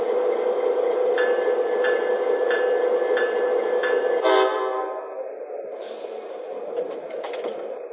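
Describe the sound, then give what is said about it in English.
A passenger train, the Sunset Limited (train number 1), arrives on track 1 at the Alpine stop for Big Bend National Park with a steady heavy rumble and evenly spaced wheel clacks, then slows and quiets, ending with bursts of brake hiss and metallic squeal. “Track 1, Train Number 1, The Sunset Limited.”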